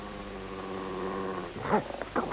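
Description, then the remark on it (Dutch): A dog growls low and steadily, then lets out a couple of short, sharper vocal bursts at the end. “Stil, brave hond.”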